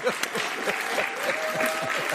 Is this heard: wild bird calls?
no